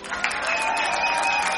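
An audience applauds in a dense, steady wash of clapping that stays loud throughout, with thin high whistles or cheers sustained over the top.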